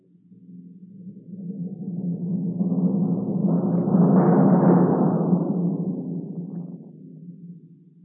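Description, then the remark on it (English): A sustained kettle drum roll that swells from soft to loud and fades away again, a low rumbling tremolo evoking rolling thunder, heard on its own without voices. “The sound of thunder, for example, can be suggested, and with quite a degree of realism, by a roll on the kettle drum.”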